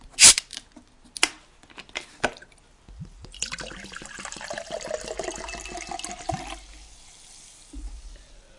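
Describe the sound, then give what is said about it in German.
A few sharp clicks and clinks, then Gerolsteiner Medium sparkling mineral water pours steadily into a glass for several seconds with a fizzy, bubbling hiss, clear, before trailing off. “Ich bin auf Gerolsteiner umgestiegen. Gerolsteiner Medium hat ein bisschen Sprudel und schmeckt mir auch nicht schlecht.”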